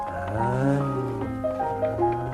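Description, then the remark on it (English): A child's voice makes a sustained, buzzing engine-like drone with wavering pitch, imitating a little toy car driving, steady for a couple of seconds. “How do you play with that one, Mr. The little car?”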